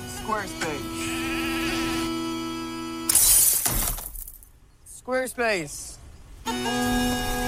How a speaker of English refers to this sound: And he throws one through the window of the local pub. You'll hear a smash of glass.